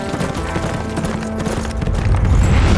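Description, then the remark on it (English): Rapid horse hooves clip-clop in a steady galloping rhythm, fairly loud, as a rider clutches the saddle horn and bounces on the horse's back, growing heavier toward the end with a low rumbling underneath. “Arturo clutched at the saddle horn and bounced wildly on the horse's back.”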